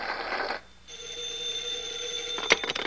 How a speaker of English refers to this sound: I'll get the phone.